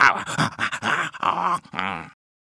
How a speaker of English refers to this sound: Good dog, give me the ball.